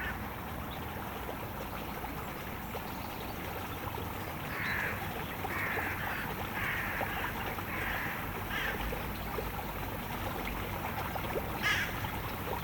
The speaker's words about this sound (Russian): В какой-то момент можно расслышать утку, которая приземляется на воду.